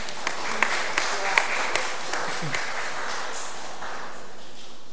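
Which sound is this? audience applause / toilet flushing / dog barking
audience applause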